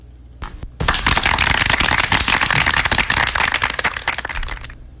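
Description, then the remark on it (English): A burst of dense clapping from a crowd, played to welcome the hosts on the News Talk 93.1 FM WACV radio show, starts abruptly, holds steady and loud for about four seconds, then thins out and fades. No one speaks over it. “thank you for the applause anyway.”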